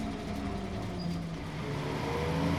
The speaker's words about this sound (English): The bus stop is over there. Look, the bus is coming. Let's take it, hurry!